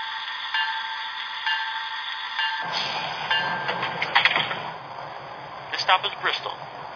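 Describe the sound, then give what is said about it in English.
A Regional Rail R7 train, number 4618, idles on track 1 at a station platform, a steady mechanical hum and rumble that thickens partway through, with scattered clanks and muffled, indistinct voices in the background. “Scepter on track 1, train number 4618, Scepter Regional Rail R7.”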